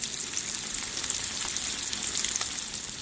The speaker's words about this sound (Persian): اونا لگ هموگلوبین سویا و مخمر رو با مهندسی ژنتیک دستکاری میکنن و نتیجه‌اش چیزیه که طعم و رنگش مثل گوشته. برگری که با این روش ساخته شده موقع سرخ کردن مثل گوشت واقعی جلز و ولز میکنه.